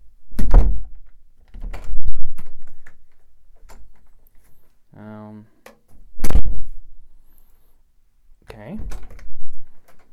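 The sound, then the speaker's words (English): Doors thud shut several times in an apartment during a recording test with low mic attenuation: four heavy knocks spaced a few seconds apart, with a brief creaky squeak between them, loud. “Okay, we've done the door test.”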